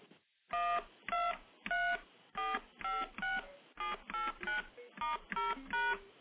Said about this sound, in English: Now, just for comparison, let me play what all the standard touch tones sound like. And you've, of course, heard these, but I'll play them anyway, just to get them in your head.